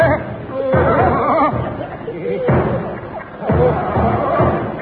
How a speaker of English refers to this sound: Look, it's a military gentleman walking up the line banging a drum.